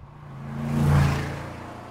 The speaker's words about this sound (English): He can hear a car.